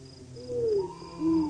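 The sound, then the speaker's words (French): Two low, drawn-out owl hoots sound at night, the second shorter than the first, over a steady high chirring of crickets in the background. No one speaks. “La nuit est sinistre, là. Je n'aime pas ces hiboux.”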